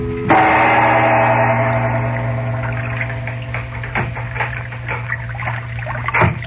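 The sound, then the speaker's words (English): A sailboat showing no lights moves slowly up the dark Nile river late at night: gentle lapping and sloshing with occasional soft wooden knocks and creaks, set over a low, steady hum, moderately loud. “Now, late that night, a sailboat showing no lights is moving slowly up the dark river.”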